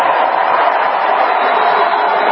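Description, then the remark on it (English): A large crowd at the Democratic National Convention produces a loud, steady roar of booing during the opening prayer, a dense wash of many voices that holds at an even level throughout without breaks. “You hear the booze?”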